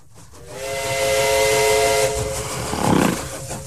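A steam train whistle blows one long, steady, loud blast over a broad rushing hiss of steam, with a brief burst of chuffing near the end. No one speaks.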